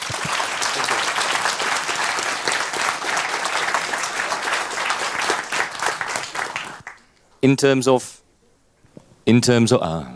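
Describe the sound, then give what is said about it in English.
Steady, dense applause from an audience at the end of a talk lasts about seven seconds, fading out before a voice begins speaking, with short pauses of near silence between phrases. “All right, applause.”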